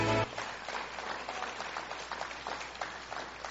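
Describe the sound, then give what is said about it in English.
A crowd applauds to give Jesus a hand clap, with steady, dense clapping, many hands overlapping into a continuous rattling wash that holds at an even level throughout. “come on, give Jesus a big hand clap.”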